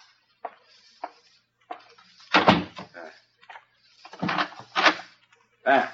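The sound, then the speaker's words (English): A door is pushed shut and locked: a string of wooden knocks, creaks and clicking latch sounds, with a heavier thud in the middle and a final rattle. “It is the wind, madame. I will close the door.”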